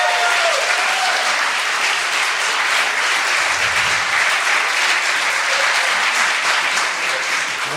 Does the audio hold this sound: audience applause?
yes